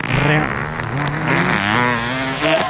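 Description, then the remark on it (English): A voice imitates a motorcycle revving up: a loud, continuous buzzing drone that rises and falls in pitch like a throttle being twisted, held steadily for nearly three seconds before sputtering out. “That sounded like my old fucking motorcycle revving up. A motorcycle.”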